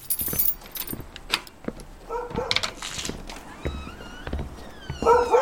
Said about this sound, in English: Don't worry. You can tell by the bark he's not serious.